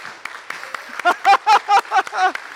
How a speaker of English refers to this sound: Just, you can feel free to stand and clap. Woo! Hey!